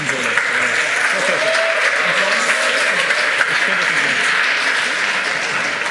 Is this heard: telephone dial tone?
no